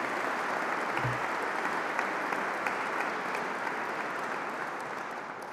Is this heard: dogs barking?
no